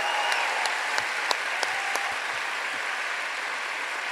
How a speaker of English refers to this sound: So I have a couple of minutes to end with, but first, can we have a round of applause for our friend.